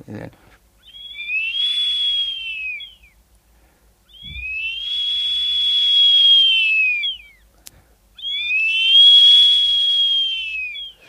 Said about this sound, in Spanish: Bueno, silbatos también como este, el guerrero azteca, ¿no?